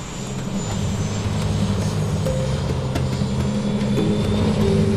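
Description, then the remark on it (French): A helicopter's engine drones steadily and loudly throughout, a deep continuous rumble with a whining tone above it, sustained with no one speaking, as it drops soldiers in the Dorlan gold-mining area of south-western French Guiana. “Le 27 juin 2012, un hélicoptère les dépose dans le secteur de Dorlan pour sécuriser les lieux.”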